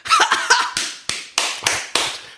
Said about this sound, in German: Schenkelklopfer. Leute, hört auf, eure Schenkel zu klopfen. Die ganze Zeit im Kino hat seinen Schenkel, aber so richtig